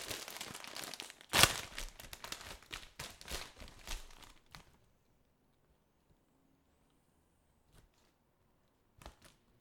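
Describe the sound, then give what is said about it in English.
A crinkly bag of ridged Ribble sour cream and onion chips is torn open with one sharp ripping burst, then crackles and rustles busily for a few seconds before falling quiet, leaving only a couple of faint rustles. “It's a special looking bag, but open it up.”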